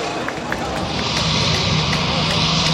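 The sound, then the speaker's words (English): A small airplane pulling a banner circles over the race track, its steady engine drone humming, blended into a loud, continuous wash of outdoor crowd and track noise with no clear break, at the IndyCar Grand Prix outside Birmingham, Alabama, on a sunny Sunday. “A small airplane circles overhead, pulling a banner that reads, "Support Auto Workers, Union Solidarity."”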